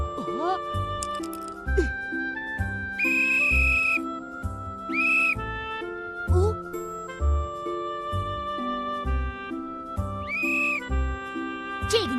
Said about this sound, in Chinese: 喏，用这个哨子就可以控制云彩。